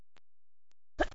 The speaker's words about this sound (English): oh, it's only gotten worse. Gonna sneeze again. Oh.